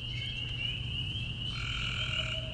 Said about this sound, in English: These are peepers. That's right. Those are frogs.